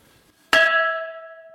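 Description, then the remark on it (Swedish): A large, thick old bell in a castle is rung once by pulling a rope, a loud clanging hit that rings on in a sustained metallic tone, slowly fading. No voices are heard. “Jag hittade en gammal klocka här. Ska vi testa hur det låter?”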